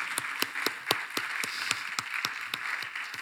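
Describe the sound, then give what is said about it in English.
An audience in church claps together in a steady, fast rhythm, sharp unified beats about four per second rising above a dense wash of scattered hands, moderately loud, with no talking. “Want to clap? Let's clap. I like clapping in church.”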